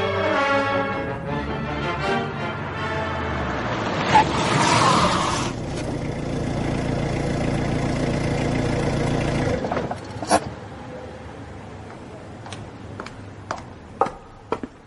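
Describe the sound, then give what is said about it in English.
A long, low Thanatos 6 sports car pulls into a drive, its engine revving and rumbling steadily for about ten seconds, then cutting off abruptly, followed by a few sharp clicks and thuds like a door and footsteps. “That was my long, low Thanatos 6 sports car you just heard pulling into the drive.”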